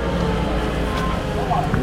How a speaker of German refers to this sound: Überall wird noch gebaut, auf dem Vorplatz aus sind Baumaschinen zu hören.